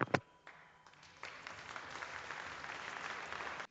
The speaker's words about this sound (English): Now, the applause started slowly and then it picked up as people all around the legislature started standing up.